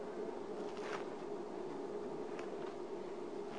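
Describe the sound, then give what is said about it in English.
Soft papery rustles of Bible pages being turned to Zechariah chapter 3 on a Tuesday night, with a couple of brief swishes standing out over a steady low hum. No one speaks. “Oh, praise God, it's good to hear the pages turning on Tuesday night.”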